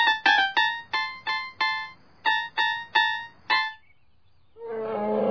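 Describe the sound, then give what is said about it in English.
An elephant vocalizes in about ten short, loud, brassy blasts delivered in a quick uneven rhythm, then falls silent before a rough rumbling noise rises at the end. “We can't afford this elephant.”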